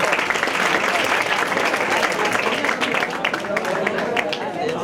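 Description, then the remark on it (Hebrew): A crowd applauds steadily for about five seconds, a dense, loud wash of many hands clapping at once with no pause, and a faint murmur of voices mixed in. The applause honours a young man who completed the Talmud tractate Menachot. “מסכת מנחות מגיע למחיאות כפיים.”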